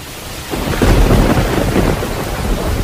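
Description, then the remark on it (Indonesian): Steady rain hisses loudly over a deep, rumbling roll of thunder that swells in about half a second in and lingers, with no voices present. “Benar saja, atas izin Allah, tak berapa lama setelah Nabi Ilyas berdoa, hujan pun datang di negeri tersebut.”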